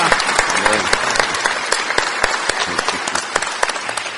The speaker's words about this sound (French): Applaudissons-le encore. Merci, Seigneur Jésus.